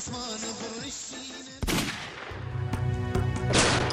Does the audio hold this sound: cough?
no